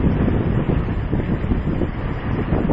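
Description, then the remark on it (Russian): Steady, loud morning sea breeze buffeting the microphone on a ferry deck in the middle of the Bali Strait between Java and Bali, just after sunrise, with a low rumbling wash underneath like a boat moving over open water. No voices, just continuous gusty roar. “Мы наслаждаемся утренним бризом и смотрим на вулканы Явы, тающие в отдалении.”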